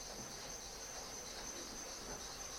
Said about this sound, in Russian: Кузнечики. Кузнечики, да? А я думаю, кто это? Это, наверное, мутанты-кузнечики прилетели. Подвальные.